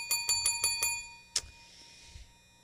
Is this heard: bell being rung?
yes